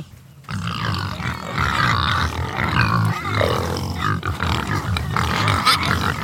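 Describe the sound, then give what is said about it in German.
A group of 17 pigs, a fattening group, grunts and squeals continuously, loud overlapping snorts and shrill cries after a brief quiet start. “Also man hört, hier ist ganz schön was los. Da sind jetzt so wie viele Schweine?”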